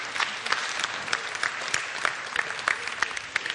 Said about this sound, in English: and you're wildly applauding as if you'd still be sitting here, right?